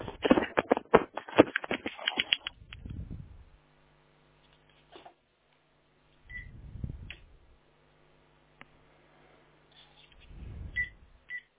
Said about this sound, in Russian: Да, гудок сейчас пошел.